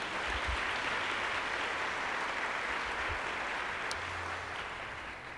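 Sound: audience applause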